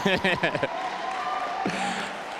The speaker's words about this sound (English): Hey, hey. We're celebrating. Just look around. If someone is not clapping, they wanted to marry them.